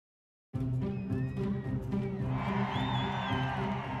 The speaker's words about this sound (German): Um Punkt 0 Uhr ist es soweit. Die Tür öffnet sich. Jubel brandet auf, Freudenschreie sind zu hören. In die Menschenmenge kommt Bewegung. Tausende wollen in die kleine Bankfiliale.